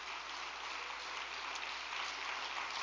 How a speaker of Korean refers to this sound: 7개 분원의 분원장님들과 우리 대륙 회장님들을 비롯한 전 세계의 모든 식구님들께도 감사의 응원의 박수를 부탁드리겠습니다.